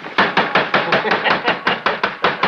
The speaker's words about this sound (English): Hit it with the hammer.